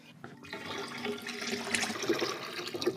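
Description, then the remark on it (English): Salt water, made from a 10-liter bucket of tap water with 350 grams of salt as average ocean water, pours steadily from the bucket into a tank, a continuous splashing, gurgling rush that starts abruptly and stays fairly loud throughout, with no one speaking. “Now I have to pour this into the tank.”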